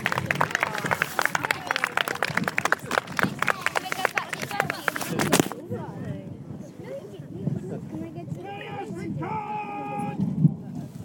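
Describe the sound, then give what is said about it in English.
A crowd applauds the legionaries and auxilia of the 20th Legion of the Imperial Roman Army with dense, steady clapping for about five seconds, then the clapping stops abruptly, leaving a murmur of voices and people talking. “Ladies and gentlemen, please give a huge round of applause for our legionaries and our auxilia of the 20th Legion of the Imperial Roman Army.”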